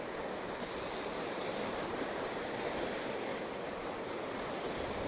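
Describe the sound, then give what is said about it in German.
Continuous rushing surf of sea waves washing onto the shore, a steady broad roar with no distinct individual crashes, even in loudness, with no voices. “Ich habe Sand in den Schuhen und stehe doch trockenen Fußes am Meer.”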